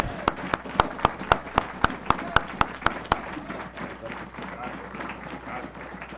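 Applause from an audience, opening with a series of sharp, regular claps over the first three seconds, then settling into a softer, steady wash of clapping from a crowd.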